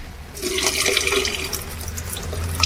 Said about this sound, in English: And now we want to see what happens to the noise when you pour out some of the water. So do you want to just pour some of that water down the sink then,